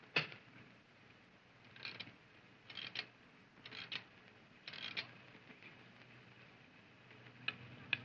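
A stopped clock is rewound by hand, its ratchet giving a series of short grinding clicks, followed by a couple of sharp ticks. The sounds are fairly quiet, with no voices.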